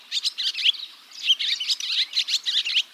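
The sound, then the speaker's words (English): Barn swallow chirping in a quick, continuous twittering chatter of high, bright notes, with short bursts and brief pauses over about three seconds and no voices. “Each time they visit the nest, the adults feed the young a compressed ball of freshly hawked bugs, and barn swallows may visit the nest 400 times per day.”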